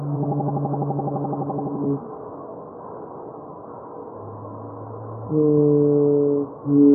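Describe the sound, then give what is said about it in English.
Whale song sped up ten times: a run of rapid pulsing tones, then a low hum rising into loud, sustained harmonic honks that break briefly and resume, with no talking. “The song you just heard was sped up 10 times.”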